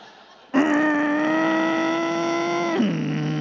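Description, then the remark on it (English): A Ford car's engine drones loudly as it accelerates onto the 91 highway, trying to get up to cruising speed, holding a steady, buzzing mid-pitched tone before the pitch drops suddenly, like a gear change, then continues humming lower. No one speaks. “we're pulling onto the 91 and trying to get that up to speed. It takes a little while.”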